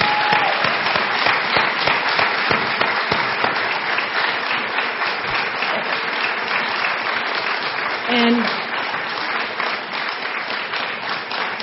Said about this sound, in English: Let's have a rousing applause and thank you for Marion Wright Edelman.